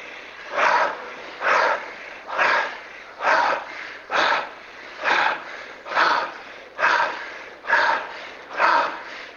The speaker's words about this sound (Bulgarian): Продължавай мощно вдишване, бързо издишване. Дълбоко мощно вдишване, бързо издишване. Вдишването е около 2 пъти по-дълго от издишването.